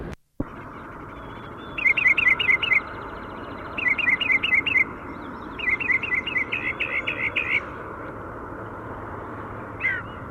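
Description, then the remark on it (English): Birds perched in a tree halfway back to their nest give quick runs of high, sharp chirps in three bursts of several notes each, with a lone call at the end, over a steady rushing background noise and no talking. “So they're perched in a tree halfway back to the nest.”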